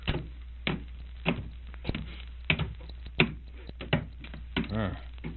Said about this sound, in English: Now the door's locked, Nayland.